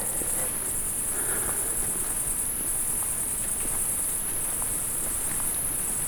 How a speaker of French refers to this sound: Tout est dominé par ce son très aigu. Je dis rien, à la limite du supportable. Des criquets et de la pluie là qui commence à peut-être à redoubler d'intensité. Enfin, quand je dis redoubler, légèrement plus intense sous les feuillages.